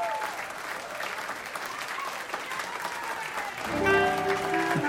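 Steady audience applause for a jazz orchestra at Lincoln Center in New York, a dense crackle of many hands clapping at even loudness, joined near the end by a sustained tonal chord that swells slightly louder.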